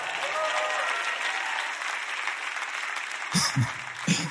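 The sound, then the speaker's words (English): A crowd claps steadily in a dense wash of applause as a teaching screen is brought out, with a few brief voices breaking through near the end. “Y'all give it up for the screen as it comes.”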